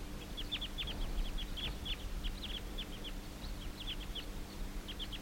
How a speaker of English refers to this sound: These are the wild birds continuing to call. Now a male has gone down a little bit. And now the whole flock took off. Let's see, there are 1, 2, 3, 4, 5, about 8 birds. And they're circling around.